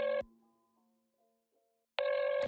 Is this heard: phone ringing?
yes